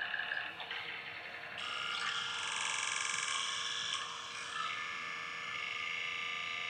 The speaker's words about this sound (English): You know, so it interests me that this buzzing noise comes from, you know, from a stream.